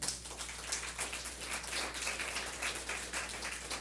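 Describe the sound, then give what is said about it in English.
An audience at New Life applauds the church elders with dense, steady clapping that holds at an even, moderate level for about four seconds, with a faint low hum underneath and no voices. “Come on, give the elders a clap.”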